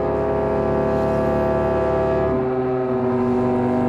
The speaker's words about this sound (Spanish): ¿Este supone que es el ruido del sonido del leviatán? Puede ser. Está respirando. Muy bien grabado, muy bien producido.